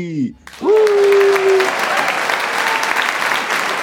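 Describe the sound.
A crowd breaks into loud, steady applause after a brief voice, with a high whooping cheer rising over the clapping and the dense clatter continuing to the end.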